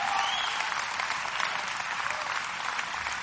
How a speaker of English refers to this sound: Clap, man. Help me out here.